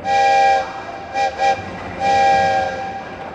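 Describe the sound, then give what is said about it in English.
A train horn sounds loud in a long-short-short-long pattern as the speaker's train leaves, the last blast fading away over a low rumble of the passing train. No one speaks. “There goes my train.”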